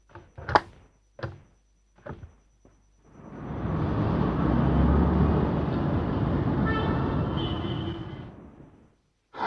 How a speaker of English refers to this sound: What traffic! And what noise!